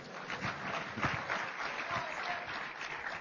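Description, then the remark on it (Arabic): Sustained applause from an audience of students welcoming a sheikh to a talk fills the space, a dense steady patter of many hands clapping at once, fairly loud, with no voices over it. “صفقوا شوي بعد زيادة.”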